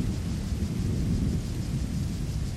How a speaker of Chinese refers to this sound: 六月的台北炎热又潮湿，随之可能到来的是午后的雷雨。闪电划过天空，雷声随之而来，接着大雨降至，洗刷完一日的闷热和湿尘，生命继续茁壮成长。